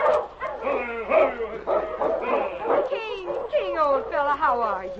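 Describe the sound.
A big silver-gray dog named King, running loose ahead of a dog team driven by Sergeant Preston, barks and whimpers excitedly in a rapid, eager string of yips and whines, fairly loud, with overlapping voices of people talking around it.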